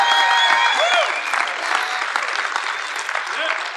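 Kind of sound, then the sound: crowd, audience shouting and clapping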